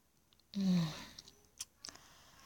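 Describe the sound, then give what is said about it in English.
Wet mouth sounds: a soft sucking slurp followed by a few quick, moist smacks and clicks against a quiet background, with no talking. “Sucking and slurping.”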